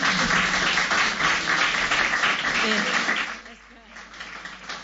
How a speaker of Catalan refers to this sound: De fet, us heu d'aplaudir vosaltres mateixos, perquè és l'Escala que té aquest microcosmos cultural impressionant, des del patrimoni natural també.